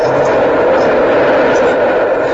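elevated train passing

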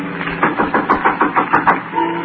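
knocking on a door

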